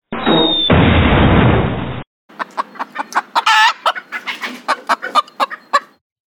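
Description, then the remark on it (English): A loud, noisy crash-like rush lasts about two seconds as someone goes down a hill through a chicken yard, then chickens cluck rapidly and excitedly in a choppy burst of squawks, fairly loud, with no one talking. “That looks hard, going down the hill through a chicken yard.”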